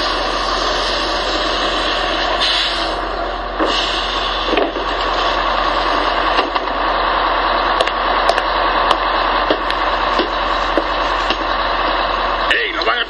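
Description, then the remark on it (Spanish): A city bus rumbles, its engine a loud, steady drone that holds without a break as it pulls up, stops in the middle of the street and idles, with faint voices mixed in. “¡Chofer, autobús! ¡Pare, por favor!”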